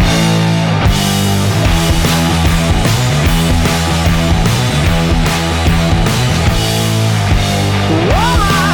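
A loud, driving hard rock song plays with distorted guitars, heavy drums and a steady pounding rhythm, dense and up close throughout, with a sliding guitar bend near the end and no talking.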